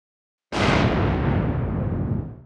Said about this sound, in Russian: Оглушительный звук. Взрыв сотряс землю. Все предметы мебели задребезжали от детонационной волны. Глухим отзвуком с металлической примесью она пробежала по стенам дома.